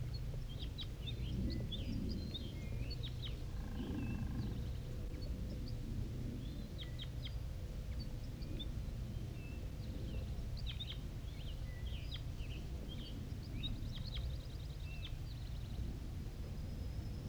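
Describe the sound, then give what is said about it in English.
Wild bird song: many short, high-pitched chirps and trills repeat irregularly throughout, fairly faint over a steady low rumble of background noise. No one speaks. “Wild bird and song with 5-3 responding.”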